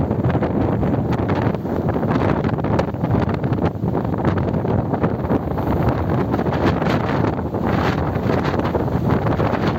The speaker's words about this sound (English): Hurricane Nicole is coming. So I decided to go for a swim at the beach. And it was getting worse by the minute, to the point where the water actually came right over here. See that, guys? The waves actually came right over here. Look at it.